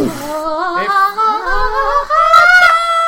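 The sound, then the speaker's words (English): A single voice sings loudly and continuously for about three seconds, its wavering pitch sliding upward like a siren wail, with only brief breaths. “you start singing loudly at the bird's nest to try and dislodge it. Like a siren.”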